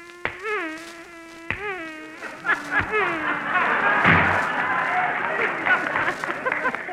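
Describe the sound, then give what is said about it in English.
A sound man's sound effect of a man swatting flies: a wavering, droning fly buzz is cut by three sharp slaps over a few seconds, then a burst of audience laughter and applause swells and fills the rest. “Now, suppose they give me a script calling for a man swatting flies.”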